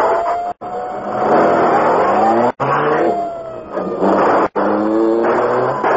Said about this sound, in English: Car coming. Maybe police.